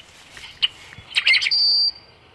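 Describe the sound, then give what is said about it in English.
A recording of a rusty blackbird song, played at the Patuxent Wildlife Research Center in Maryland to lure a flock closer: a few gurgling, clucking notes followed by a sustained, high, squeaky whistle like a creaky hinge, loud and clear with no talking. “Their song kind of sounds like a rusty hinge that you might expect on a farm door somewhere out in Kansas.”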